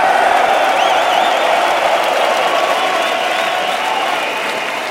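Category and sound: crowd, crowd applause and cheering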